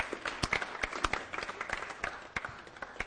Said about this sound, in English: Let's give these guys a clap, tree. Let's welcome up here.